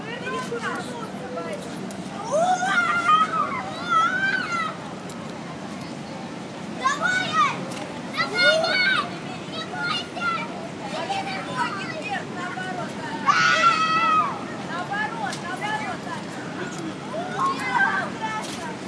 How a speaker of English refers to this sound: Hi, just start bungee jumping and listening to little kids screaming.